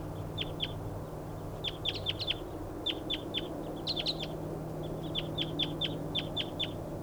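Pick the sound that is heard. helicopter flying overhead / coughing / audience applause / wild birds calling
wild birds calling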